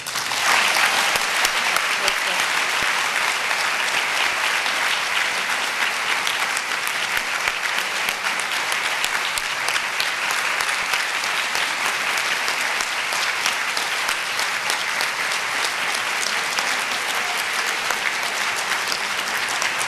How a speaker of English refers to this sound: we honor and applaud you.